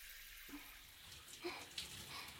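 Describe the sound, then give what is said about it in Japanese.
Shower water in a bathroom switches on after a brief quiet moment and keeps running as a steady, soft hiss, with a few small splashy accents. It's fairly quiet, with no talking. “今、シャワーを出しますので。”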